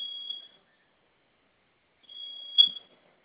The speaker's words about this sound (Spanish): Pero no se silenció su alarma, ¿verdad?